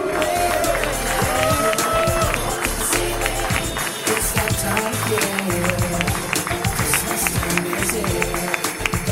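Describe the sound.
A crowd applauds loudly and steadily for about nine seconds, a dense clatter of claps with scattered voices and cheering mixed in.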